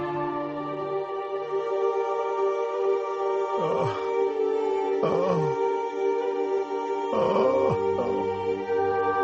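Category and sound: animal, dogs whimpering and yipping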